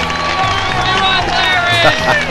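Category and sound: crowd, crowd cheering and applause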